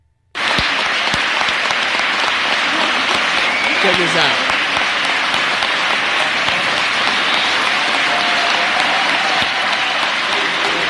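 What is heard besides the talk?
scattered applause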